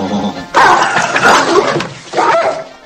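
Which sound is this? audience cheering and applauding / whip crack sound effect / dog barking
dog barking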